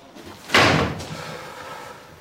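door being shut

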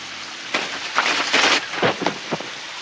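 shower water running

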